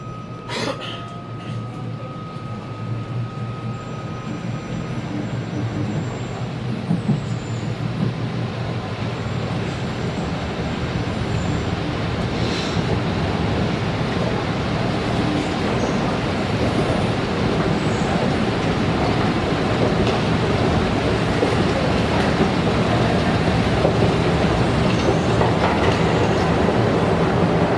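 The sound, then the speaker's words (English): A train runs steadily along the rails, loud, with a constant rumbling roar and faint rhythmic clatter throughout; a thin high whine sounds briefly near the start. Its next station stop is Bundle Sands and Crosby. “The next station stop will be Bundle Sands and Crosby.”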